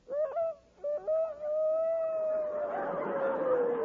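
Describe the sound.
Victor Moore imitating the crow of the Pathé Newsreel Rooster as a special feature of the Rexall radio program, sad and howl-like: a few short clipped notes, then one long, steady, mid-pitched tone that sags slightly at the end and turns breathy and hoarse.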